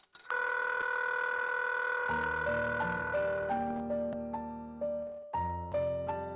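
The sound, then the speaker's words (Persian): A telephone dial tone fills a phone booth after a stuck coin drops, humming steadily and loudly for a couple of seconds, then a quick series of stepped electronic dialing beeps follows, clear with no voices. “تو خواب لبخندی زد و بعد یهو گوشیش افتاد پایین و یه دفعه سکه‌ای که تو گلوش گیر کرده بود سر خورد و به اعماق وجودش رفت و بوق آزاد همه ی فضای باجه رو پر کرد.”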